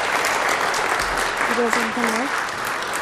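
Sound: round of applause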